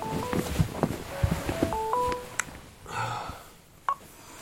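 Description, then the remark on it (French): A phone ringtone plays a short, bright electronic melody of stepped beeping notes, followed by a brief rustle and a click. “Oh putain, il est où ce téléphone?”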